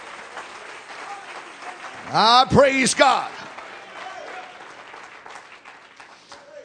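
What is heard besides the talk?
audience clapping hands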